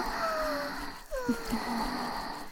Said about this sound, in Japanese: 右の耳にも吐息を流し込んであげる。ほら、悪魔の息に包み込まれてる。悪魔の息だよ。左右の息をしっかり感じてみて。